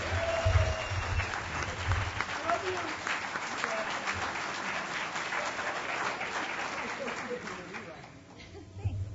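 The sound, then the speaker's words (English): A crowd at DEF CON applauds a woman steadily for several seconds, dense clapping at a fairly even level that thins out near the end, with some murmuring voices mixed in underneath. “Everybody come on, clap for her.”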